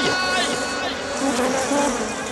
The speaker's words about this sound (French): C'est quoi ce bruit ? Oh, c'est rien. Juste 2000 abeilles qui n'aiment pas qu'on les dérange.